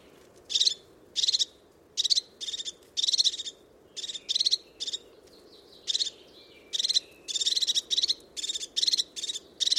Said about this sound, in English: The call of the crested tit, very sharp, very precise. And such incredible little birds.